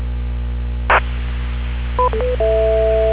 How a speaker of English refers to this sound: Repeater, time out.